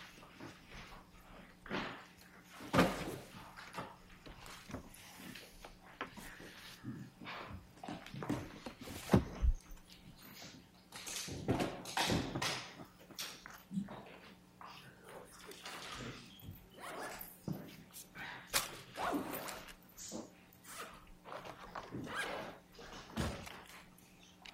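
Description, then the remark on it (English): A chair scrapes and bumps as counsel shifts it back into place, a series of irregular knocks, thuds and short drags, with faint room noise between them. “Glad you put that chair back, counsel.”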